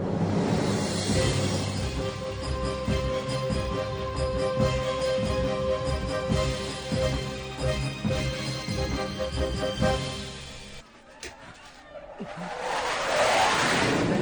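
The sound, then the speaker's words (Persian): A loud, sustained roar of an enemy aircraft with steady droning tones passes overhead, dips briefly near the end, then swells again into a rising rushing whoosh. No one speaks. “هواپیمای دشمنه.”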